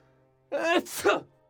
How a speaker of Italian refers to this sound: Che starnuto! Tutti quanti furono sbalzati fuori e scaraventati ovunque.